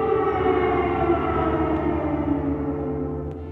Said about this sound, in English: We spent the following week in Kyiv. Like all the citizens, we got used to the air raid sirens.